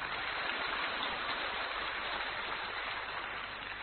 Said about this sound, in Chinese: 鼓掌。